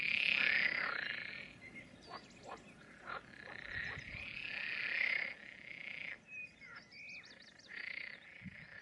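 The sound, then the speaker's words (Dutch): A dense chorus of frogs croaking continuously at dusk in mating season, in a ditch and across the fields, loud and overlapping, with many calls blending into a steady pulsing din, some faint bird chirps mixed in. “De hele nacht rijden de trekkers en kwaken de kikkers.”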